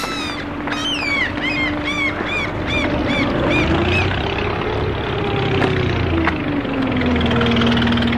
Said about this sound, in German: Ein Boot kommt. Es hat kein Licht. Zwei Männer. Ein großer und ein kleiner.